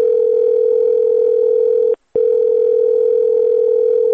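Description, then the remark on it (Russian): A telephone call to a specialist on regional affairs rings with no answer: a loud, steady mid-pitched electronic tone holds for about two seconds, breaks briefly, then sounds again for another two seconds, with no voices. “Әлбиттә, без төбәктәр менән шөгыльләнүсе белгескә лә шылтыраттык, әмма кызганыс телефон яуап бирмәй.”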